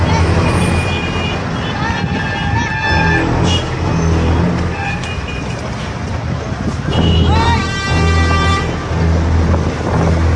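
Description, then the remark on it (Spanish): Congested street traffic with a steady rumble of idling engines and several car horns honking in bursts, one long blare toward the end, as a verbal fight over traffic prolongs the congestion. Indistinct voices murmur in the background. “Bastaron dos cruces de palabras para que la pelea por el tráfico comience incrementando los minutos de congestión.”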